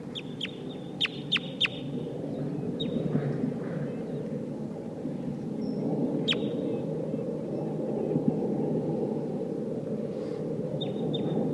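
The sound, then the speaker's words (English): A recording of sharp, high chip calls of red crossbills that sound like the Sitka (Sitkensis) type, a quick run of four at the start, then scattered single and paired notes, over a steady low rushing background noise. “I hear wild crossbills here. It sounds like a Sitkensis type.”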